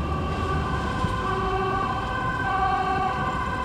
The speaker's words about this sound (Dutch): Waar jij maar komt, gaat de sirene af.